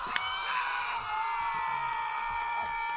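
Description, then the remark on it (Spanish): A loud crowd, the morning show's cheering section, cheers and screams for a show presenter without pause, a dense wash of high, excited voices holding steady for about three seconds, with one sharp shout standing out near the start. “Jauría, señoras y señores, la barra de la mañana, vitoreando al niño Maravilla.”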